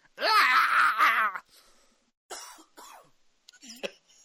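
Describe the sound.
A voice imitates the character Xavier's shrieking scream: one loud, strained, wavering cry lasting over a second, followed by a few short, raspy, cough-like bursts after a brief pause.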